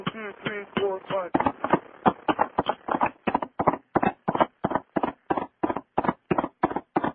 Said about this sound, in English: You don't need to have a knock on that thing every time you blow it. Well, it sounded like a horse hoof. I thought it's like a little western or something, like, you know.